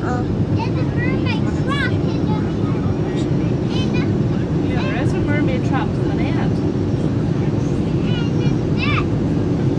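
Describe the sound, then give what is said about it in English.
Steady, loud low roar of an airplane cabin as the aircraft descends, a constant engine drone filling the space while voices talk faintly over it. “Well, we can't be far off the ground now, can we,”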